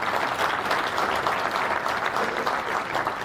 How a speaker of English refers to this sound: And it makes me happy that you clapped then, but that was actually the easiest thing to do out of everything that I described before.